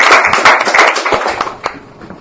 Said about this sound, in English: So I'd like to get her to stand up and get a nice round of applause.